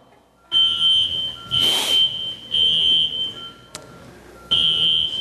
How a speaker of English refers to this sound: you might need to tell him how to turn off the alarm.